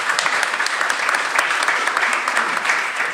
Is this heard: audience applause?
yes